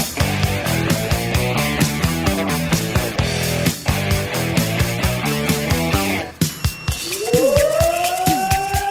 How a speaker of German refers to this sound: Alarm für die Feuerwehren Bevern und Essen-Oldenburg.